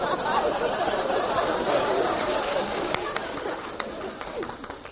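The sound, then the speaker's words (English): Pigeons coo in soft, throaty murmurs over a steady hissing background, punctuated by a few sharp clicks toward the end, fairly close and moderately loud throughout. “Came by carrier pigeon, didn't it?”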